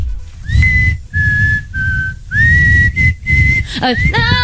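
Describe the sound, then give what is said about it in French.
A person whistles a song melody in a series of sustained, slightly wavering notes, fairly loud, ending with a few quicker sliding pitches; low rumbling background noise runs underneath throughout. “Mais c'est toi qui siffle.”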